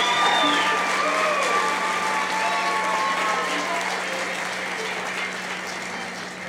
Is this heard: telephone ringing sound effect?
no